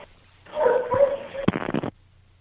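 A dog at a shelter whines and whimpers in a drawn-out, wavering cry, then lets out a quick burst of sharp yips and barks, thin and tinny over a phone line after a dog hit the redial button.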